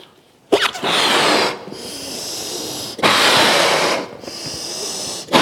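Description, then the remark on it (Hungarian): Liquid nitrogen boils and bubbles in a vessel that is very hot relative to it, with a loud, rushing hiss that surges in two long bursts, each about a second, separated by brief quieter gaps, with a third burst starting at the end. “Ha megnézitek, akkor az edény, amely számára nagyon forró, az edény, vel való közreműködés révén a cseppfolyós nitrogén elképesztő módon zubog, forr.”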